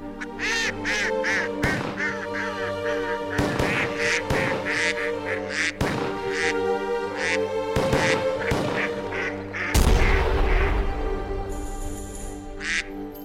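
Duck quacks, pitched into a bouncy holiday classical-style tune, repeat in quick rhythmic bursts over a steady, sustained musical backing. The quacking is loud and continuous, with no talking.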